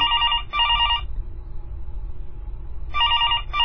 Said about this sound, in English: When the phone rings, she rushes in excitement.